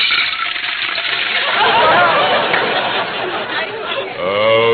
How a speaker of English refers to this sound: Well, there's water in the pitcher. Just pour it into the bowl. Okay.